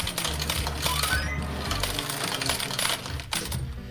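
A rapid, continuous clatter of 27 coins pouring out as a prize payout and jangling into a metal tray, dense and loud for several seconds, with mechanical whirring underneath and no talking.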